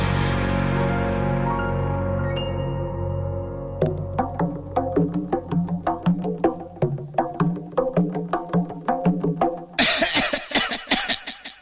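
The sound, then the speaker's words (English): A sustained musical tone fades out, then a long run of repeated coughs follows in quick, uneven succession, loud, growing harsher and breathier toward the end. “What a lot of coughing.”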